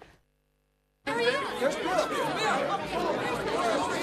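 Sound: party crowd chatter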